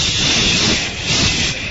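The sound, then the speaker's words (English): A person imitates a deflating balloon with a loud, steady breathy hiss from the mouth, lasting under two seconds, with a brief dip and swell partway through. “It was like someone just pricked the balloon, and I just went,”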